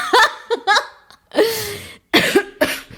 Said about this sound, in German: Oh. Ja, du hustest, ich huste, du rülpst. Das war jetzt eine Ablenkung.